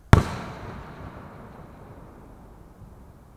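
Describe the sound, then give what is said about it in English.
A single loud firework blast bursts at midnight, lighting the sky to the west red, a sharp crack that rolls into a long, fading rumble echoing over several seconds. No voices are heard. “When midnight struck, the sky to the west blazed red, and for a moment, I thought it was a bomb and not fireworks.”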